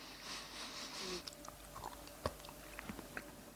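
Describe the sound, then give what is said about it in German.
Wet chewing of a soft bite of cheese, with small irregular smacks and clicks of the mouth over a faint background hiss, no voices. “Du hast nämlich jetzt so ein Tutti-Frutti-Feeling, wenn du reinbeißt, das du gar nicht zuordnen kannst.”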